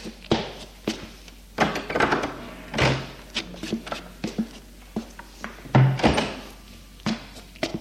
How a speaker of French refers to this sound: Il monte à l'étage et ouvre la porte de la chambre.